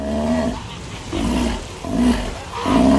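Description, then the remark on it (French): A sea lion, one of the animals of Antarctica, roars in a series of four loud, throaty calls, each about half a second long, coming in a steady rhythm with no talking over them. “Non, mais la saxo qui s'embourbe, mais aussi un lion de mer, exactement”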